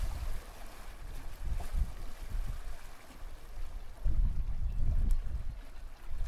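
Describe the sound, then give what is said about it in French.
Water sloshing and lapping around a sailboat in a harbor with steady wind rumble, low surges swelling louder toward the end; no voices, a continuous outdoor harbor ambience. “Voilà, il y a les gens sur le bateau, c'est quoi comme bateau ? Il y a des gens qui sont partis en voile, ouais.”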